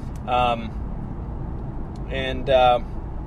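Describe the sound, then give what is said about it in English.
A steady low rumble of idling cars in slow, stalled traffic in the Seattle region, caused by the closure of the I-90 floating bridge across Lake Washington, fills the background, while brief bursts of a voice rise over it in a few short fragments. “I mean, it really just comes to a frickin' standstill. I'm in the middle of being stuck in it.”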